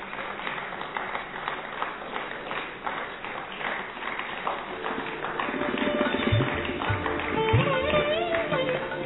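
Sustained crowd applause, steady and dense, with scattered voices and a rising murmur of chatter mixing in toward the end, as honoured guests on a conference stage are presented with shawls.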